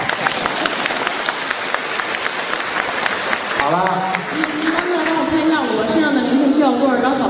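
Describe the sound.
An audience claps steadily for a few seconds, a dense patter of many hands, then a voice begins talking as the applause thins out beneath it.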